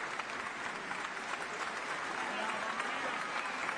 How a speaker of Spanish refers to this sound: Beatrice Venezzi, en este momento, hace su aplauso. Les pide a los músicos que se pongan de pie. Los aplaude como es costumbre.